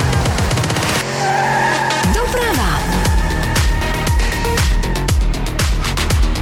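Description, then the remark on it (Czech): A loud, punchy radio station traffic report jingle with a screeching tire skid sweeping down early on, followed by driving beats and bright synth stabs, all dense and up-front. “No a dnešní podoba zní asi třeba u nás takhle. Doprava!”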